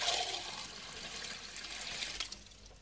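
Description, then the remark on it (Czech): Water pours steadily into a glass for a few seconds, a continuous rushing splash that fades slightly near the end, with no voices. “Mohu dostat sklenici vody?”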